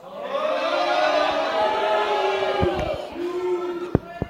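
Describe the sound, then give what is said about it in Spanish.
A live audience responds loudly with sustained applause and crowd noise, a faint undercurrent of booing mixed in, with a few sharp claps standing out near the end. “Bueno, aplausos, algún abucheo, pero muy pequeñito.”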